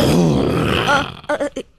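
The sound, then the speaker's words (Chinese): A person lets out a loud, drawn-out roar about a second long, imitating a lion, followed by a few short, quieter vocal bursts. “这狮子低头对着这只瘦巴巴的小老鼠吼了一声：“吼！”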